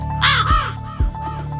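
A harsh, hoarse raven caw rings out, followed by a fainter second call, set over a short radio news programme jingle with a steady tone and two deep thumping beats.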